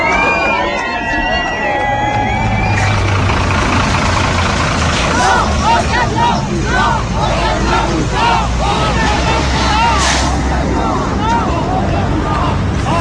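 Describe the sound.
A big truck engine idles in a steady low rumble at a road blockade, with people sitting in front of the truck, while a crowd talks and calls out over it in a busy outdoor babble.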